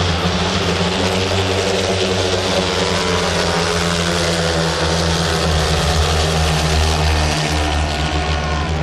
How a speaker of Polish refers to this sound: Bardzo radośnie warczały te motocykle w piątkowy wieczór w Lasku Golęcińskim.